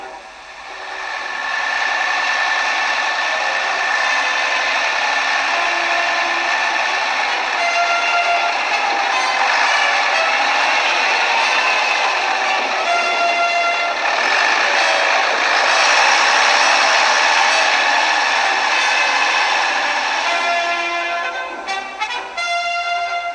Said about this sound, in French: Et voici le camion qui s'éloigne du village d'Achipompé.